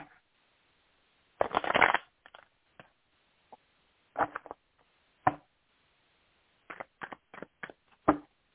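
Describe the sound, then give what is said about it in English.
A deck of cards is shuffled: one longer riffling burst, then a scattering of quick taps and flicks as the cards are squared and cut, with no talking. “All right, let me give a quick shuffle.”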